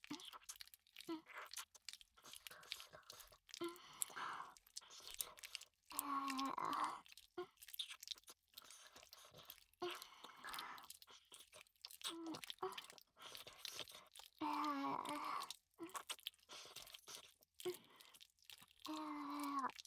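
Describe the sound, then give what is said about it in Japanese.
Wet, sticky mouth sounds of sucking a tongue and slurping up drool repeat in irregular bursts. Soft moaning vocal tones are mixed in between the smacking, fairly quiet overall. “今からは、舌も吸って、よだれが垂れてこないように、全部吸い取ってあげますね。”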